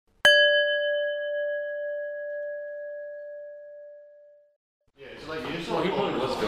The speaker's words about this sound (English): Now press pause when you hear the bell, and when you are ready, press play again